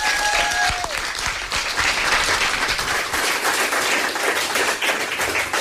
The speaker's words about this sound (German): Also nochmal einen riesen Applaus.